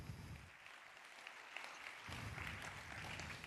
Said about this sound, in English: Einen herzlichen Applaus, bitte. Let's have a very warm round of applause for them.